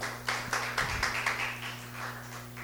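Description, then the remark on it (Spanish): A crowd breaks into applause, starting with a few distinct claps that quickly blend into steady clapping over a low electrical hum, with no one talking. “Gloria a Dios, denle un aplauso”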